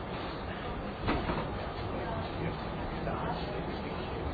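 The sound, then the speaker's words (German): A line 67 tram rumbles steadily as it rolls into a stop at Reumannplatz station, with a brief clunk and rattle partway through, heard from inside the car; faint voices murmur in the background. “Der Zug der Linie 67 fährt also in die Station Reumannplatz ein.”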